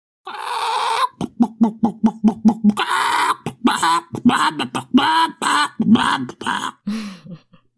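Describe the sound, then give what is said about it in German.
A loud rooster sound played as a short segment jingle: a harsh opening burst, a rapid run of clucks, then a choppy series of crowing calls, with no one talking. “Dann gibt's hier den Gockel der Woche.”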